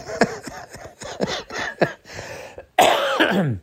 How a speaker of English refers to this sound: As I cough my brains out. All right, sorry. I had to go take care of that, you know,